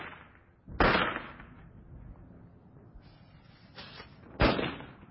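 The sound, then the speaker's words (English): Two sharp firecracker bangs burst out a few seconds apart, each trailing off in a rumbling echo, with a fainter pop just before the second one and no voices. “Now, centuries later, we think firecrackers are just the thing to celebrate the 4th of July.”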